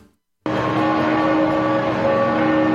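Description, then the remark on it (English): Church bells of St. Mary Major Basilica in Rome, where Pope Francis has been laid to rest, ring out loud and steady after a brief silence, their overlapping tones merging into a continuous, shimmering wash of sound with no voices. “That's bells ringing in Rome at the St. Mary Major Basilica, where Pope Francis has been laid to rest in a simple underground tomb.”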